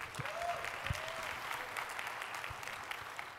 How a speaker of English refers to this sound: Wow, I should get that much applause for uploading something. That's like epic.